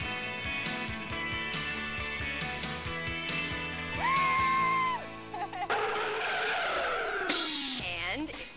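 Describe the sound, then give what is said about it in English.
A test car on the Test Track ride at Epcot, Walt Disney World, squeals its tires in a sustained high screech, then a loud rushing skid follows with engine noise, all over a busy musical background. “Got what it takes, then hit Test Track, where you run a test car through its paces on one of the longest, fastest rides at Walt Disney World.”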